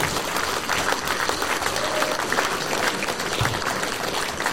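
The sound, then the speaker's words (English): An audience at a candidates' forum applauds the organising team steadily, a dense wash of many hands clapping at an even, fairly loud level for the whole stretch, with a faint murmur of voices mixed in. “Big round of applause to our team, please, for managing that.”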